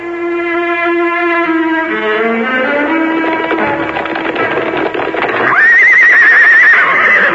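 Loud horse whinnies: a long descending neigh, then a high, wavering squeal near the end, with a brisk clatter of hooves in between. No voices.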